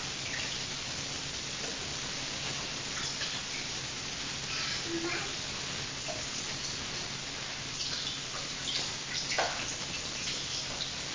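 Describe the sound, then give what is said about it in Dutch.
Steady running water from a shower hisses and patters continuously onto a surface, even in level throughout, with faint background sounds but no clear speech. “Ik zou maar douchen. Maar wacht.”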